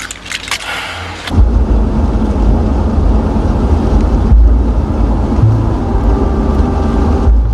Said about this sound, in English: Joe drives the car along a busy tree-lined road.